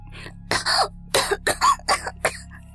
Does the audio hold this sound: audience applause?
no